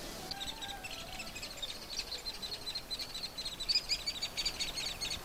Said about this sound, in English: You hear that noise? Kind of chittering. Those are baby woodpeckers. I'm standing at the base of a fairly large aspen tree, and about 15 feet up there's a hole, and I saw the adult hairy woodpecker come out of there. And you can hear the young.